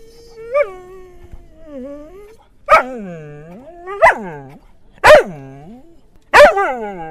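Cody, the dog from the film Le Procès du chien, gives a series of loud barks, about five in all, spaced roughly a second apart, with a drawn-out whining howl between them and no talking.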